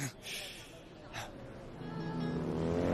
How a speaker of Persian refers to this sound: صدای وسپوه.